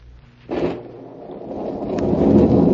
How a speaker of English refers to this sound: Soaked to the skin, his shoes leaking, Joe Martin trudged through the rain toward Benedict's pawn shop.